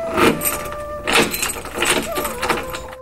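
The door of a small abandoned house is shut and locked with a key: a few sharp metallic clicks and clunks as the key rattles and turns, with a faint ringing tone underneath.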